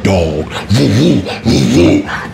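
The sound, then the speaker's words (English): A person imitates a dog growling with their voice, making three loud, rough, wavering bursts in quick succession, close to the mic, with no other talking. “dog. And it's close as fuck.”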